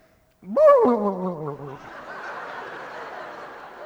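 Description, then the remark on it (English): A voice imitates a turkey with a loud, warbling gobble that rises and then wavers down for just over a second, followed by a steady, softer wash of crowd noise. “I need you to make the sound of a turkey like this.”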